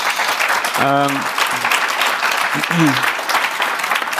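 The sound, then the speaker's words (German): Steady, dense clapping from an audience runs through the whole clip, with a couple of brief voiced calls or cheers rising above the applause. “Den Applaus holen wir dann am 24. Juni natürlich nochmal nach, aber das wollte ich nur sagen.”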